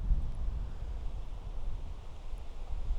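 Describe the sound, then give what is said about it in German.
Soft, muffled wind rumble buffets a microphone covered with an improvised windshield, a piece of fur held on with a rubber ring, turned into the wind; a low steady churning with mild swells and no sharp gusts breaking through, heavily damped and fairly quiet throughout. No one speaks. “Aber jetzt drehe ich mich mal wieder hässlich in den Wind.”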